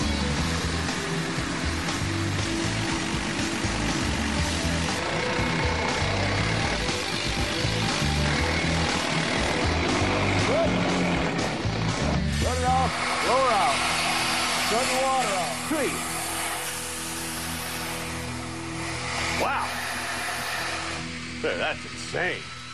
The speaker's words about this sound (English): In the good old days, it took 2 men 4 hours to make this hole with a hammer and jumper steel. Today, with this pneumatic jackhammer, it takes one guy about 4 minutes.